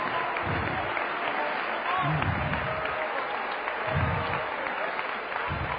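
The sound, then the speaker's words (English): A church audience claps steadily and loudly in praise of God, a dense wash of many hands, with murmuring voices and cheers mixed underneath throughout. “Come on, clap your hands to God and give Him praise.”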